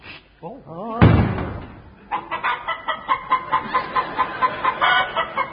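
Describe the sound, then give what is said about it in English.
A man's voice imitates a rooster, with a warbling crow-like call, then a sharp thump, followed by a steady run of rhythmic clucking sounds. “It's turned him into a male chicken.”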